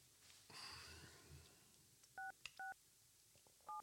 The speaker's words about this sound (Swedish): När du slår telefonen.